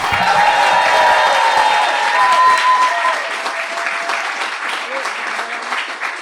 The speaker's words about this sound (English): I want you to clap and cheer and whoop as hard as you can as if there was a sale in IKEA with free meatballs and they're filming an advert where kittens run loose! That's more like it.